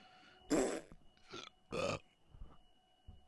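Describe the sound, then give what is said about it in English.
A few loud belches in quick succession: two strong burps with a shorter one between them, and a faint low thump near the end. No one speaks. “I don't have a burp to add.”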